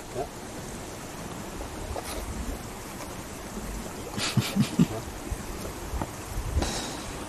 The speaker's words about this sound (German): Hörst du das? Das Blubbern.